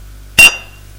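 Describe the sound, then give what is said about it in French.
A single bright clink of glasses as two people toast with drinks, sharp, its high ringing tone fading quickly over a quiet low hum. “À nous. Et il trinque.”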